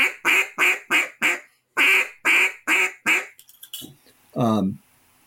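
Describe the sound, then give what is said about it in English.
A duck call blown as greeting calls in two quick runs of four loud, evenly spaced quacks, clear, followed by a few soft clicks and one short, lower-pitched honk. “And then a greeting call is just a string of 3 or 4 quacks.”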